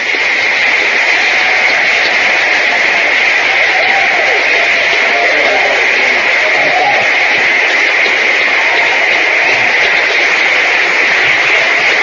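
standing ovation

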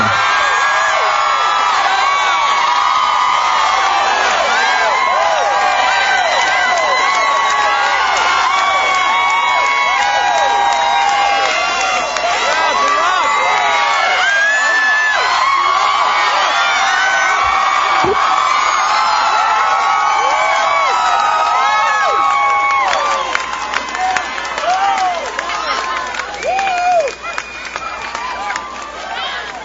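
crowd cheering and applauding

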